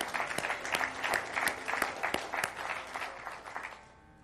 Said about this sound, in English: And round of applause.